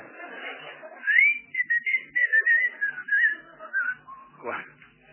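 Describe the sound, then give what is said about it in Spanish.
A run of high, warbling whistles in quick short phrases, sliding up and down in pitch for about five seconds, clear with no talking over it. “Cuando le estirábamos chiflaba a veces.”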